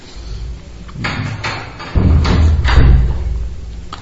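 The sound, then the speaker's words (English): A door is closed to keep mosquitoes out, with a series of heavy thuds and knocks, a few bumps in quick succession followed by a low rumble, with no one talking. “We shall look at our Krishna after you have closed the door so that no mosquitoes.”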